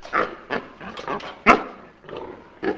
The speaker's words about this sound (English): Farmer Carlos Dobler stands before a concrete holding pen squirming with enormous white pigs. Dozens of them cram their snouts against the bars of their cages, baring their teeth. Dobler's operation, some 3 hours north of Mexico City, is small